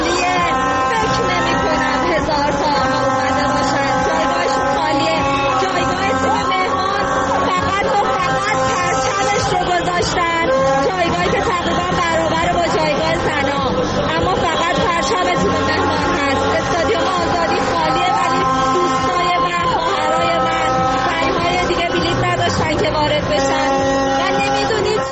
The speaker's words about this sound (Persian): نمی‌دونم بتونه صدای من رو بین این همه صدای جیغ و سوتم را بشنوین یا نه.